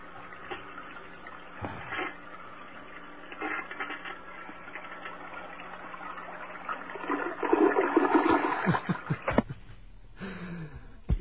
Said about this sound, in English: it's great how every toilet flushes differently. You know? It's amazing. If you have a phone near your bathroom, feel free to call us up and flush the toilet because, you know, we won't get the same thing twice